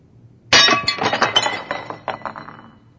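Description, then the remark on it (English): A heavy iron skillet crashes against a china plate with a sudden loud clatter, followed by a rapid spill of ringing clinks and rattles that fade out over a couple of seconds. No voices. “Or she was just trying to share a real need she had personally or emotionally, and all she felt from me was the insensitivity of my iron skillet banging up against her china plate.”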